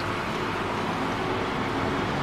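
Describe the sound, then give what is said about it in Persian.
A steady, low engine rumble of two approaching military vehicles, broad and continuous with no clear rise or fall, holding at a moderate level throughout with no voices. “دو تا ماشین نظامی نزدیک میشن.”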